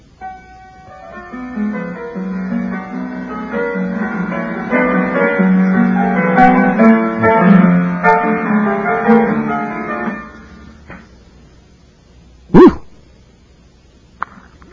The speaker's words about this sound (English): Hey, could you bring the phone a little closer to the piano? It's kind of impossible.